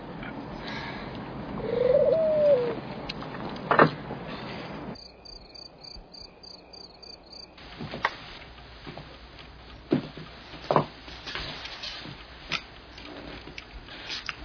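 Pigeons coo softly in a brief low warble early on, amid rustling ambient noise, scattered clicks and a high, steady insect trill in the middle; no one speaks.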